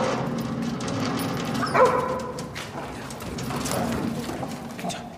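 A dog barks a few times as it is brought toward a room, over a busy background with clopping or shuffling noises and a steady low hum; no one speaks.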